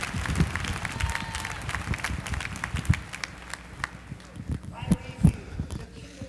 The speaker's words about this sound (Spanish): Vamos a aplaudir.